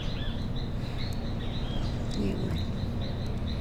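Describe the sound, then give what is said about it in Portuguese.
A distant bird across the street repeats thin, high chirps at an irregular pace, faint against a steady low outdoor rumble, with no one speaking. “Eu já tô longe, o passarinho já fica do outro lado do coisa, da rua.”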